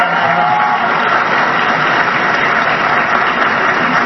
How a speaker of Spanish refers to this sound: Asimismo, también un aplauso para el IMSS, para el ISSSTE y PEMEX en el marco de estos programas institucionales que han recibido.